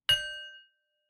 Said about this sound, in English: So get yourself settled and we'll begin with a bell.